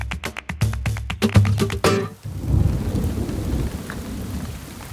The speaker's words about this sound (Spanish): ¡Uf! Llueve a mares. ¿A que sí? No entiendo. Please explain. Llueve a mares is an expression that means it's raining a lot.